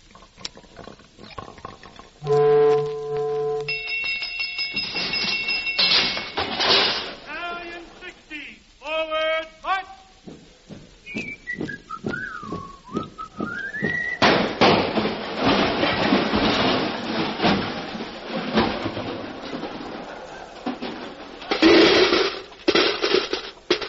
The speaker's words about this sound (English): A pinball machine made from a landing ship?